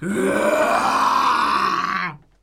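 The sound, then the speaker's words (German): A person growls out a long, loud, throaty roar, imitating a lion at the end of a German pronunciation exercise practising the Ö sound. The single sustained groaning cry holds steady for about two seconds, then cuts off abruptly. “Opakujte tuto větu několikrát a nakonec napodobte řvaní lva.”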